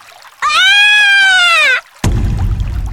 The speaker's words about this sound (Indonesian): Tiba-tiba terdengar teriakan Gigan yang sangat keras